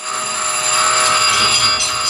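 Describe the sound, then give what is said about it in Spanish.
A loud, continuous alarm blares without pause, a dense, buzzing tone holding steady at a high pitch for about two seconds, with no voices over it. “¿Oyen? Sirenas. ¡Alarmas!”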